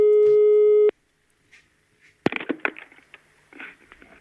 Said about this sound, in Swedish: Och den här personens pappa ringer nu.